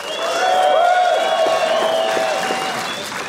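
An audience cheers and applauds in a steady, loud burst of clapping mixed with whoops and high-pitched shouts, sustained for a few seconds with no speech, voting for a storyteller whose story they believe is true.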